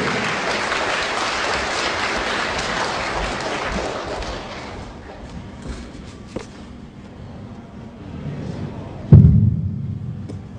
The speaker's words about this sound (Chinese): 下面让我们用热烈的掌声欢迎小南老师为我们做讲座，传授历史，颂文明。